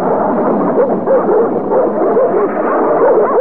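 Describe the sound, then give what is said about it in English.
A pack of dogs barks and yips all at once, a loud, dense, overlapping chorus that carries on without pause, with no one talking over it. “Well, this is where I started picking up the dogs after I dropped the professor.”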